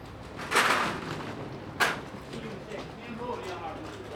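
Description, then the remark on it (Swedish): The middle of three doors at the main entrance of the central station on Vasagatan swings open with a broad whooshing rush, followed about a second later by a single sharp thud, over a steady murmur of background voices and ambience. “Och det är 3 stycken dörrar jag har framför mig. Och jag går in genom den mellersta.”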